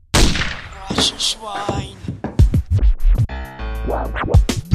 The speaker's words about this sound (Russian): Секунда, вторая, боже, хоть бы успел. Закрыл глаза, остановил дыхание, выстрел.